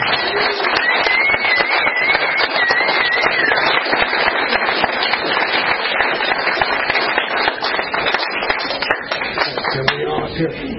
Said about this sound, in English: So he'll fill you in on all the details, but I just wanted to ask you guys to give him a warm round of applause.